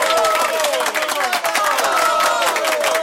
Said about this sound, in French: C'est un moment difficile, donc je pense que le public pourrait soutenir, monsieur le ministre, s'il vous plaît, par vos applaudissements.